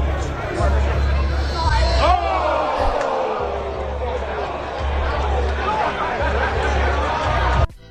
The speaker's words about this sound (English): Here's Jackson Dart at training camp. Unfortunately, throwing a pick six, and you're going to hear the crowd.